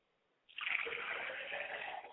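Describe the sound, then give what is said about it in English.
After a brief silence, liquid is poured out as a libation toward the north in a steady splashing stream that continues evenly for nearly two seconds before tapering off, with no voices. “Now we pour to the north, going down.”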